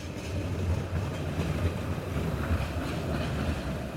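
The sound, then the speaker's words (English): A tram rumbles steadily past on a lively street in Bucharest, its low rolling drone and faint clatter of wheels making a continuous, moderately loud hum. “I step out of Studio 20's carefully manufactured fantasy world onto Bucharest's lively streets with their trams and coffee shops”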